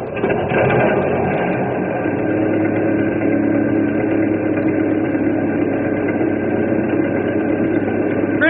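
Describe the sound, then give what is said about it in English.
An old ferry boat engine is cranked up to cross a river. It chugs loudly, a brief rougher start settling into a steady, rumbling idle that continues throughout with no voices. “I'll crank up this old engine, and we'll cross over and kick them out.”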